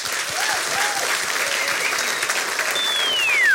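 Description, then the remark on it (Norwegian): Steady, dense applause from an audience for the day's guest, Thor Gotaas, many hands clapping in a continuous wash with a few faint whistles, ending with a brief descending tone. “men gi en stor applaus til dagens gjest, Thor Gotaas.”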